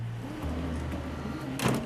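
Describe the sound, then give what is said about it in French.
A low, steady vehicle hum fills the background, then near the end a specialised educator rolls open the sliding door of a bright yellow van with a short, loud rumbling scrape, in a neighbourhood of Amiens in Hauts-de-France, France. “J'essaye d'ouvrir le van, j'ouvre les portes, déplie la tonnelle pour créer un espace délimité, défini, chaleureux.”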